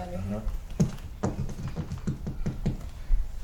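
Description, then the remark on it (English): Several hollow knocks rap on a thin plywood or pressboard wall in an uneven rhythm, about six taps in a few seconds, after a brief murmur of voice at the start. “So it looks like the walls are plywood.”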